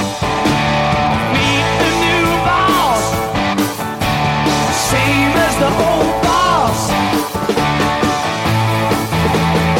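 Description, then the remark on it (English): Loud, dense rock music with a singer's voice rising into high, sliding screams that wail over the full band, returning a few seconds later, with no talking. “One of the greatest screams in rock and roll history.”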